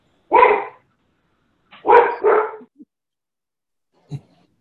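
A dog barks three times, a single loud bark followed by a quick double bark, then a faint short yip near the end. Clear with silence in between.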